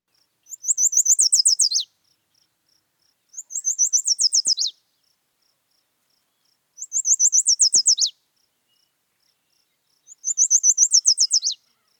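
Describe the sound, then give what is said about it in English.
A yellow warbler sings four bright, rapid, high-pitched phrases, each a quick series of sweet notes about a second long, separated by short pauses; clear, with no talking. “We have the yellow warbler. And, of course, the warbler always sounds the most musical to me.”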